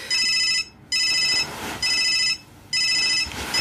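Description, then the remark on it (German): A mobile phone ringtone rings loudly in repeated electronic bursts of about half a second each, separated by short pauses, with no one speaking. “Da so laut. Ist das dein Handy?”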